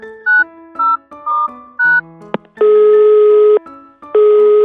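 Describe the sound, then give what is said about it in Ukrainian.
Telephone call being placed: a quick series of short electronic keypad beeps, a click, then long, steady ringing tones with a brief pause between them, loud with no talking. “Треба зателефонувати ведмедику. Де ж той телефон? Ось він.”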